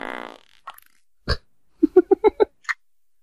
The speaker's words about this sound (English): it's still going. God damn. Holy shit. No way. God damn it. It's the best fart sound ever. That's incredible.